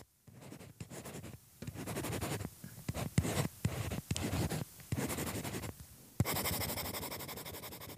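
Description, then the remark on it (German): A stylus scratches steadily across a paper-like tablet screen, recorded with the microphone held right up to the device, in bursts of short strokes with brief pauses, ending in a longer continuous scribble. No one speaks. “Hört sich schon an wie Papier. Das ist schon wie so ein Papier.”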